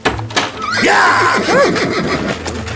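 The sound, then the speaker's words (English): A horse lets out a loud, shrill whinny, its pitch sweeping up and then shaking downward in quick wavering bursts, over a low, steady rumble. “I would have thought you'd have developed the internal combustion engine by now, rather than being reliant on livestock.”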